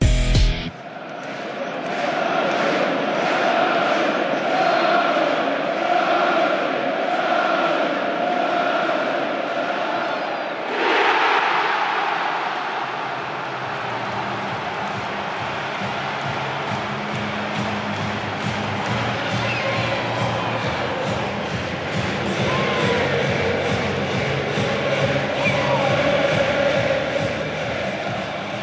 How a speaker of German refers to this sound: Und wir können ja mal kurz reinhören, was das für eine Jubelexplosion beim Elfmetertor war und wie schön das einfach war, dass 64.000 wieder im Stadion waren.